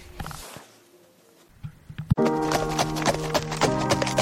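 horse hooves clip-clopping

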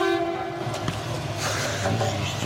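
tram running on rails

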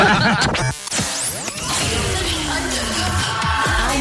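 whip crack sound effect

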